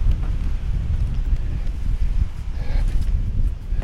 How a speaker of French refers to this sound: Alors j'ai réussi à marcher jusqu'au bout du bout. Il y a un vent à décorner les bœufs comme on dit.